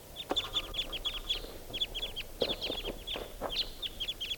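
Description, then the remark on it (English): A lone wild bird, broken away from two others and sitting by itself in a treetop, calls in quick, steady bursts of short, high-pitched chirps that repeat throughout, over a low rustling background with a few soft, lower thumps and no talking. “Here's that lone wild bird.”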